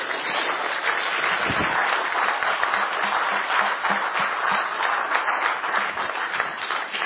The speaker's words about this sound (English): Can I get you to give a warm round of applause